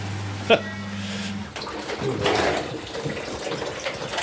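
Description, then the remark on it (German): Water gushes and splashes steadily from a pipe as a 20-year-old gas boiler heating system is being dismantled, with a short sharp clank near the start and a low hum fading out early. Some faint talking blends into the background. “Die ganze Anlage zu demontieren und danach erstmal einen Überblick zu verschaffen, wie, wo wir was anschließen können müssen. Da kommt Wasser.”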